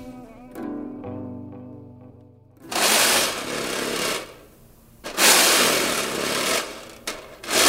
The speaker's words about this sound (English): This recording is me alone in the studio scraping the bottom of a snare drum. I heard that sound first in my head, and I was like, I need this like weird kind of scrape without thinking about snare or thinking about whatever it was that could make it